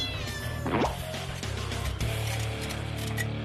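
A cat being rescued by the fire brigade meows once, a short rising cry near the start, over a steady low rumble of engine or machinery noise with some clatter.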